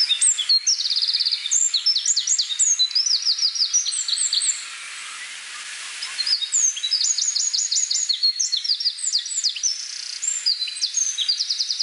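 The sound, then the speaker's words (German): A small male songbird sings in spring, bright, rapid warbling phrases with tumbling trills, two bursts separated by a brief pause, clear with no talking. “Die Stimme ist sehr hell, überschlägt sich oft und hat so einen schmetternden Teil.”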